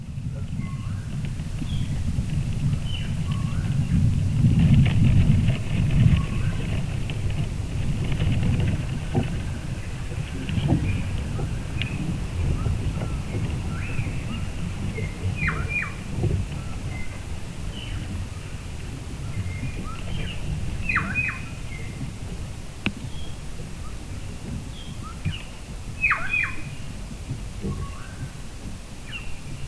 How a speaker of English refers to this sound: In that sense, the recording from that tree for me contains, yeah, the birds, which are inevitable. And I like them. I kind of find them funny that they are, you know, passing through and interfering in a good way.